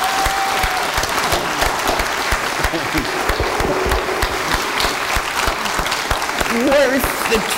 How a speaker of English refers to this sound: Please join me in applause.